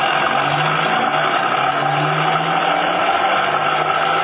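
A car engine drones steadily as the vehicle drives toward a cottage, a constant mid-pitched rumble with a low humming undertone and no voices.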